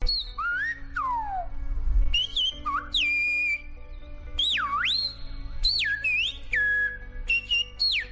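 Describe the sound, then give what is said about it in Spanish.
Loud, sliding human whistles of Silbo Gomero, the whistled language the islanders of La Gomera use to communicate at a distance, in quick bursts, swooping up and down in pitch and holding steady tones between glides, over a low steady hum with no talking. “es el único lenguaje silbado del mundo y el método de comunicación a distancia de los isleños gomeros”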